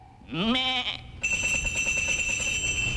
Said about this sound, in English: He say, a lot of sheep have bells, but these sheep are tuned. Says to make the chromatic scales, which he make use of by knocking the sheep on the head with his crook, a signal to them to ring the bell. He do it like this.